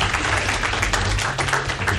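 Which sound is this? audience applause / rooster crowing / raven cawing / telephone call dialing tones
audience applause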